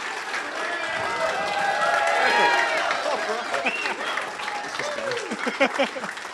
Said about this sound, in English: So can I get a clap from everyone on your right?